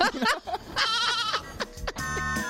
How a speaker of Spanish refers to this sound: Oye, a mi hijo le comió una camisa. Una cabra.